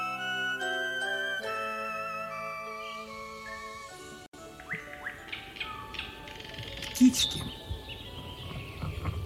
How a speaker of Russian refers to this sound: Прилетели птички, пощебетали, то ли поприветствовали, то ли намекнули, что им чего-нибудь поклевать хочется.